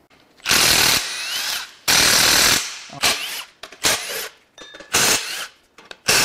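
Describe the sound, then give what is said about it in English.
Tools work at removing the water pump from a high-mileage engine during a teardown: loud, harsh power-tool bursts of whirring, grinding noise start and stop repeatedly, some long and some brief, with short pauses between and no talking. “I forgot the water pump. Time to take the water pump off.”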